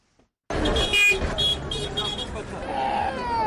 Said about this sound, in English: It's around 8 p.m. at the Nyabugogo National Bus Station.